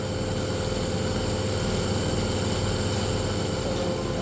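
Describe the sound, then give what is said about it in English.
A nebulizer, turned on to deliver drugs to a bird suspected of aspergillus infection, runs with a steady, droning motor hum and a fast low throb beneath a constant hiss, holding an even loudness throughout with no voices. “So that's the nebulizer being turned on?”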